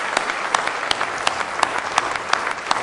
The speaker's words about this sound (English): Somebody say praise the Lord. Let's give him another good hand clap of praise tonight if you love him.